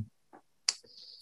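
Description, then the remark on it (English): An earring knocks against a microphone: a soft low bump, a faint tap, then one sharp, bright metallic click with a thin high ringing tail. No talking. “my earring banging against the mic, and it gives us something to work with.”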